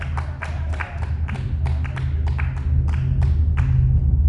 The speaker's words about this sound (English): a train passes overhead.